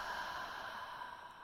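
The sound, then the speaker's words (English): A long, steady exhale of breath after a deep inhale during a breathing exercise, soft and airy, flowing out evenly for over a second with no talking. “Exhale it out.”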